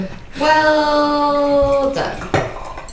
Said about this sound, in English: It's pouring out a nice white wine color. It is. It's not very yellow. It's more of a white wine color.